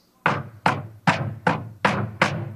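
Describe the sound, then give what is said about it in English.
Six heavy, forceful knocks pound on the door of a home at 5 o'clock in the morning in a steady, even rhythm, each landing with a booming thud, with no voices present. “Now, I don't know about you all, but at 5 o'clock in the morning, someone's doing that at my door.”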